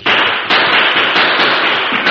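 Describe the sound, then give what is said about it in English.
A loud, dense volley of gunshots from three guns firing at once, the cracks overlapping into a continuous crackling barrage with a few sharper bursts standing out, with no talking. “Three guns screamed bullets and 2 men fell.”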